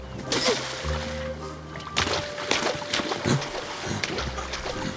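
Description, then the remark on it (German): A long stick slaps wildly at stream water as someone tries to catch a fish, several irregular splashing smacks over a few seconds, loud, with sloshing and trickling water between strikes and a low steady hum beneath. “Mit einem langen Stock schlug sie wie wild auf das Wasser.”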